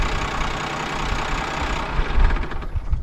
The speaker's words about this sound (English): You want me to switch the tractor off? Yeah, okay.